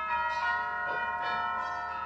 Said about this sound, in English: that's the new set of bells in the church down the block.